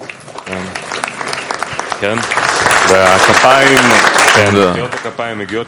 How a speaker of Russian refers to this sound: Да, аплодисменты полагаются многим товарищам, которые посылают тексты в газету, и много товарищей и подруг пишут и оформляют эту газету.